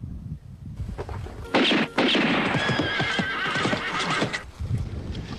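animal, horse neighing

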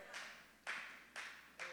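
crowd, audience clapping

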